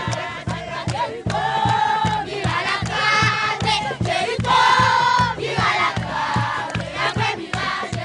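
A group of women and children in a circle in a dusty homeless encampment in Haiti's capital after the earthquake chant a song praising Joshua's victory at Jericho, calling for the walls to come down, in loud, rhythmic unison, voices rising in bright repeated phrases over a steady pulsing beat.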